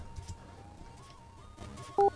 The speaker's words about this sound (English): Just leave your name and number after the beep.